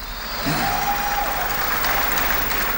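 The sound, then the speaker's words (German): Steady applause from Barack Obama's audience in Cairo during his speech on democracy. It is a dense wash of many hands clapping at an even loudness for the whole stretch, with a faint whistle-like tone briefly rising above it. “Obama erläuterte seine diplomatische Annäherung an den Iran, bekräftigte den amerikanischen Abzugsplan im Irak und widmete einen großen Teil seiner Rede dem Thema Demokratie, unter dem Applaus seiner Zuhörerschaft in Kairo.”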